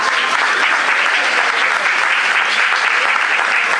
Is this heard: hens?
no